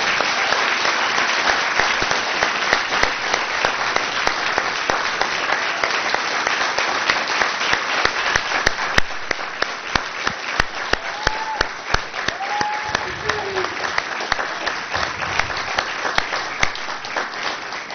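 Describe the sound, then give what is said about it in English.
Steady, sustained applause from an audience at a school district gathering, given for the retirees: a dense crackle of many hands clapping for about eighteen seconds, with a few brief cheering whoops rising near the middle. “but one last, please, round of applause for our retirees tonight.”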